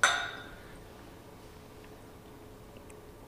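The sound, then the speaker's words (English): A single bright clink of glasses touching in a toast over Michter's whiskey, its ringing tone fading quickly, with no one speaking. “I was drinking Michter's with Matt Odell. Fuck yes. Cheers. Cheers, brother.”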